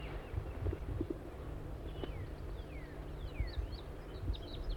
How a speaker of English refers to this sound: There's a wild crossbill here. Pointed at the decoys now.